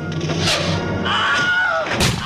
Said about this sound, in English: And in that way, the screams become kind of tainted with a comic effect, because actually, once you listen to the same scream again and again, it's less startling and shocking than it was the first time.